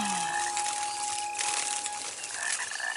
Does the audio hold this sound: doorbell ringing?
no